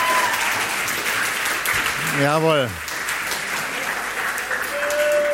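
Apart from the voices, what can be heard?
audience applause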